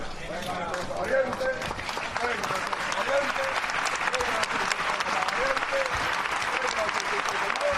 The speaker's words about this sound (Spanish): El aplauso en la calle Feria para la Virgen del Carmen, que ahora sí que está completamente fuera en las puertas de Onus Santorum, pero aún dentro de la reja, por eso no han escuchado todavía esta marcha real.